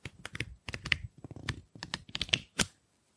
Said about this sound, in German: Ich habe gerade das Programmheft auch ein bisschen in der Hand. Wundert euch nicht, wenn es hier so ein bisschen blättert. Vielleicht hört ihr das. Bisschen ASMR.